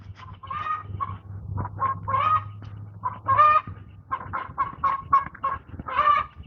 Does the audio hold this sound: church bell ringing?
no